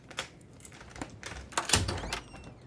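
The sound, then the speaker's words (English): Several sharp knocks on Charlotte's door, landing in an uneven, scattered rhythm, fairly quiet, with no voices. “Soon after, Barry knocks on Charlotte's door.”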